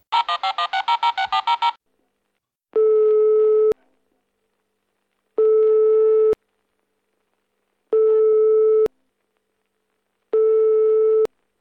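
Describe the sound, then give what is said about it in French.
A quick burst of electronic dialing beeps as a woman calls on her phone, then a steady telephone ringback tone: four long, even hums, each about a second, separated by regular pauses. It is clear, with no voices. “Et se levant, en claquant des doigts, elle chercha son téléphone, puis appela.”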